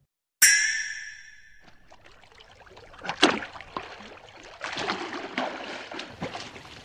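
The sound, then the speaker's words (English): A man swims through water on holiday with irregular splashes, starting with a sharp burst, then quieter sloshing that builds into a run of steady strokes toward the end. “Here he comes. I hope he enjoyed his swim, as I have some bad news for him.”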